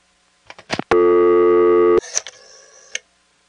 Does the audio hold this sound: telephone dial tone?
yes